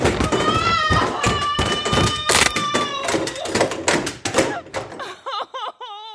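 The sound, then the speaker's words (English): A person tumbles down stairs from the top, by a secret door, in a rapid, irregular cascade of loud thuds and knocks. A strained vocal cry rises over the impacts, and a wavering moan follows as they stop. “You're right at the top of the stairs, at that secret door. You woke up just in time. For what? To feel every bit of this. Down you go.”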